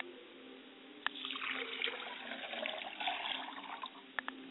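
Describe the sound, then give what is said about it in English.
Liquid being poured as a libation to the west in a steady splashing stream for a few seconds, with a couple of sharp clicks, moderately loud with no talking. “I pour libation to the west, and I say, libation.”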